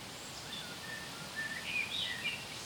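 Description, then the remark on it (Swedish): A common blackbird, Sweden's national bird, sitting high up among beech trees on a windy day, whistles a string of short, high, thin notes, scattered phrases rising and falling over a steady background hiss, fairly soft and with no talking. “Ja, så måste det ta vissla. Ja, visslar.”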